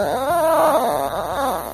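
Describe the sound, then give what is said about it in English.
A dog makes a raspy, zipper-like whine that rises and falls without a break for under two seconds, fairly loud with no one talking. “producer Taylor Quimby's dog sounds like a tent zipper”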